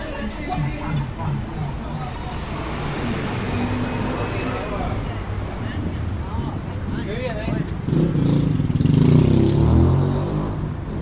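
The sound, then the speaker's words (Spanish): Steady roar of busy traffic at the corner of Avenida Cabildo and Juramento in Buenos Aires, cars and motorcycles passing with an engine revving louder toward the end, over a background babble of crowd voices. “vamos a ir hacia Cabildo y Juramento, una de las esquinas más transitadas de la ciudad de Buenos Aires y además una de las más ruidosas.”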